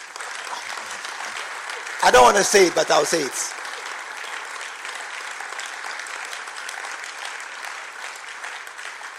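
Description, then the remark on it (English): Steady audience applause fills the whole stretch, a dense crackle of many hands clapping at an even level. A man's voice briefly speaks over it near the start, then the clapping carries on alone. “Your clapping is very...”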